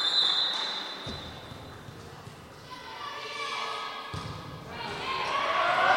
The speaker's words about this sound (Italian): Pallone ancora che una volta tocca il nastro e cade a terra. Il sarà il terzo o il quarto che abbiamo visto, magari forse lo allenano.